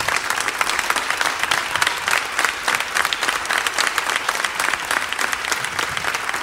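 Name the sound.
theatre audience applause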